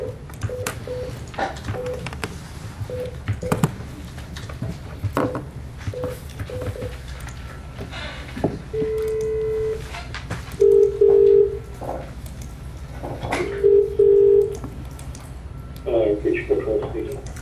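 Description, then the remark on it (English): A run of short electronic keypad beeps as a phone is dialed during a council meeting to reach Councillor Whitwell, who is to attend by telephone, followed by a longer steady tone and two drawn-out ring tones, with faint background murmur underneath. “CEO, can I get Councillor Whitwell on the phone?”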